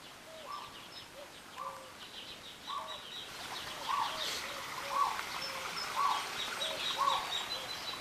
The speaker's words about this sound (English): We went to the San Diego Zoo, which is just so much fun. And as soon as you get in the entrance to the grounds, the first thing you come to is their aviary. Oh, they have some neat sounds in this bird aviary here.